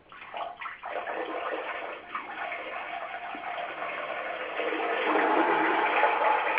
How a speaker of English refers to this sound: It just started raining.